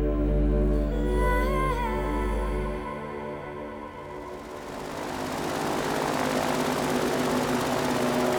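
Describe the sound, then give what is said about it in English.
A boat engine drones loudly and steadily, a low humming rumble that turns into a rougher, splashier roar partway through as the boat is steered around alligators. No voices are heard. “Anyone ever tell you you're a terrible boat driver?”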